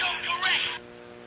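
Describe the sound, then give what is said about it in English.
A phone ringtone for an incoming call plays a bright, warbling musical burst for under a second, fairly loud, then cuts off abruptly, leaving only a faint background hum. “That's the best ringtone ever.”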